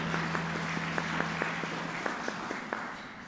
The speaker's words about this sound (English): All right, a round of applause for everyone.